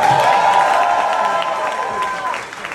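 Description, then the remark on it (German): A crowd applauds a drag performer's look steadily, with cheering and a sustained high whoop riding over the clapping, loud throughout and easing off slightly near the end. “Kannst du mal einen Applaus machen für den Look?”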